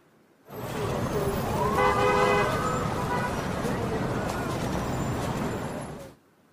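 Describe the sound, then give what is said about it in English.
Busy street ambience in Times Square, New York: a steady roar of traffic with car horns tooting, a crowd murmuring underneath, and a sustained horn tone standing out in the middle of the stretch. “And here's a recording of Times Square in New York.”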